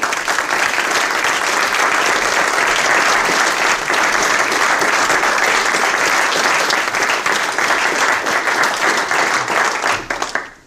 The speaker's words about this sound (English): And finally, I had to introduce him last. Please give him the biggest round of applause of all because, well, he's our boss,